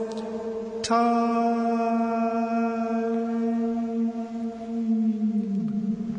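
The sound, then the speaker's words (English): A voice imitates an echo with one long, steady, sustained hum that starts abruptly, rings on for about five seconds at an even pitch, then sags slightly lower at the end. “How's that for echo for you this week? Very natural. I like the use of your real vocal skills and not the the audio enhancement.”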